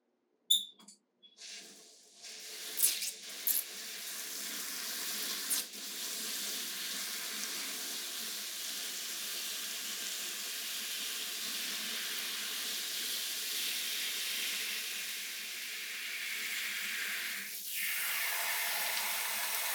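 household object, running shower water

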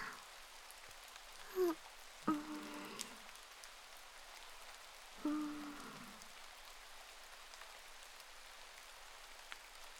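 nature, rain falling on surfaces

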